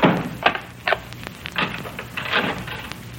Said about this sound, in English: Lock the door